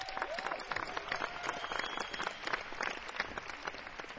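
Dense audience applause fills the whole stretch, a steady wash of many hands clapping at a fairly even loudness, with a faint whistle-like tone early on and no one talking.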